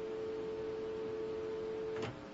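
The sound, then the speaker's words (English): A steady telephone dial tone on line two drones continuously for about two seconds, fairly loud, then cuts off abruptly with a faint click. No one speaks. “That's line two. I get a dial tone.”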